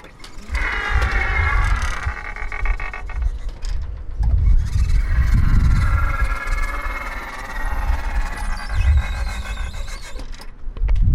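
A mechanical squeal from the automatic door openers at a store entrance, a wavering high-pitched whine that rises and falls over a rumbling, throbbing low motor drone and wind buffeting, steady and fairly loud throughout.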